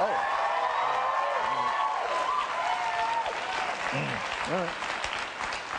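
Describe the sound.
A large crowd applauds steadily, dense clapping with cheers and whoops rising above it, sustained at a loud level throughout, with a few voices calling out.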